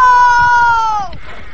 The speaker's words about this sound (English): Get off that plow. I haven't finished yet. You're finished, all right. Listen to those horses.